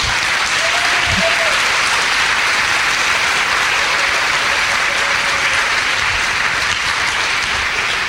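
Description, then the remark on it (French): A crowd applauds the women from other nations who are present, a dense, even wash of clapping that holds at full strength for the whole stretch, with a faint voice surfacing briefly underneath. “Amen, on va vous applaudir.”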